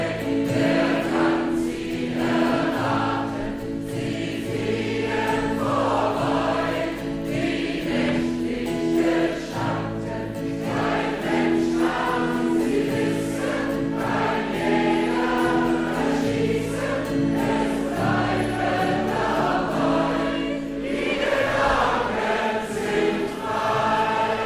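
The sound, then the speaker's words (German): An audience sings the first verse of the folk song "Die Gedanken sind frei" together, a slow, steady melody moving in even steps at a constant, full volume from start to finish. “aber zuerst mal möchte ich die erste Strophe von euch hören.”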